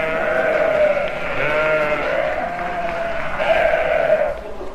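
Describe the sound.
A flock of sheep bleating together, many overlapping wavering cries forming a loud, continuous chorus for several seconds over a faint murmur of background noise.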